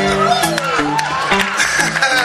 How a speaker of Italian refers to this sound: In realtà il bello con i capelli lunghi è il super mix della chitarra e voce, un applauso per lui.